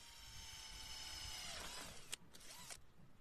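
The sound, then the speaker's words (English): A power drill, used to mount a solar panel on the roof of a house, whines at a steady pitch for over a second, then spins down, followed by a few sharp clicks and light rattling. No one speaks. “Drill in one hand, solar panel in the other.”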